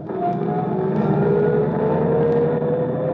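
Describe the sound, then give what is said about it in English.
A taxi carrying a passenger and luggage drives off, its engine humming steadily and fairly loud, its pitch climbing slightly as it pulls away, with no voices over the continuous motor drone. “And then he waves to you as you drive off.”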